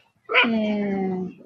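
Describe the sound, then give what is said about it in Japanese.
A dog in the medium and large dog area of a dog run, with about 30 dogs on natural grass, lets out one drawn-out, slightly falling cry lasting about a second, fairly loud, followed by quiet outdoor background. “30頭ぐらい、中大型犬ブースにワンちゃんがおります。”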